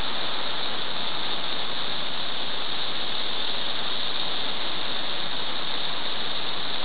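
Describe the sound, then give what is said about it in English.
A loud, steady, high-pitched buzz from three cicadas on the outside of a window pane drones on without a break, shrill and continuous, with no voices over it. “I have a couple of cicadas out here on the outside of the pane, around the edge of it.”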